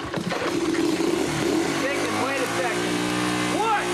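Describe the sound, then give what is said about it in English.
A motorcycle engine runs steadily, a continuous low rumble that holds at an even level for the whole stretch, with some brief higher sounds rising over it. “Anthony leans towards the bike and appears to switch off the engine.”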